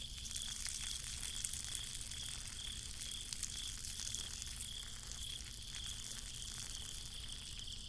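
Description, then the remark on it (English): A person urinating onto flowers: a steady, unbroken trickling stream of liquid that holds an even, fairly soft level for several seconds, with no voices. “Wow, I'm really going pee.”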